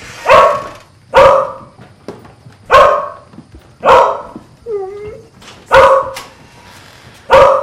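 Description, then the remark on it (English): A dog gated in a kitchen barks loudly, six sharp barks spaced about a second apart, with a short whining whimper slipping in between two of them. No one speaks. “Bonnie stays gated in the kitchen.”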